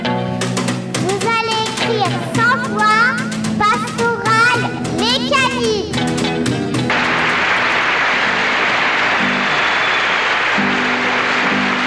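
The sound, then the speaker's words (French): Tonal music with voices fills the first seven seconds, then cuts to a dense, steady wash of crowd applause from a television recording, aired on Campus Grenoble radio, carrying on loudly until the end. “Je vous rassure, c'est pas de la friture, il ne pleut pas, ce sont les applaudissements à la télé.”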